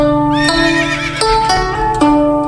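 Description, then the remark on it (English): A horse neighs loudly, a quavering whinny that rises and wavers before breaking into sharp, shuddering bursts, with no talking over it. “does it measure up to trekking 1,000 kilometres through the hills and swamps of Mongolia with your partner on the back of semi-tame horses?”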